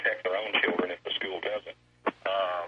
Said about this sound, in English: Go ahead and turn the radio off.